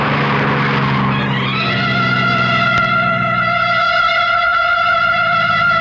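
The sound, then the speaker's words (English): A cab's engine roars, then tires break into a long, loud, steady screech that holds for several seconds as the cab speeds around a corner. “around the corner. We'll dump the cab and get into our car.”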